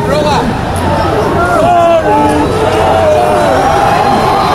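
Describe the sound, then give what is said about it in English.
A large outdoor crowd of people sitting on the grass in lawn seats booing loudly and continuously, many overlapping drawn-out voices sliding up and down in pitch, a thick, steady wall of jeering that lasts throughout. “Getting booed by people sitting in the fucking grass.”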